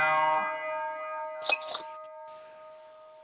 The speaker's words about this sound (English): Yeah, we had to let that bell sit in right quick, though.